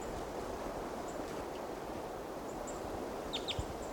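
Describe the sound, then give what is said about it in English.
A few short, high-pitched type 2 calls from a male bird right over a camp at about 8 o'clock, faint chirps clustered near the end over a steady rushing background noise, with no talking. “About 8 o'clock now, and there's another type 2 male right over the camp. And he gave type 2 calls on the way in.”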